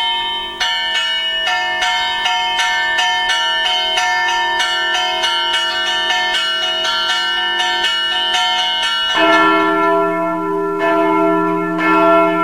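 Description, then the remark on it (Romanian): The church bells of the Brâncoveanu monastery ring loudly and continuously, with rapid overlapping strikes building a dense, sustained peal that shifts to a deeper tone near the end. No voices. “Am îndrăgit sunetul clopotelor mănăstirii Brâncoveanu, așa cum alții au îndrăgit sunetele clopotelor de la Putna.”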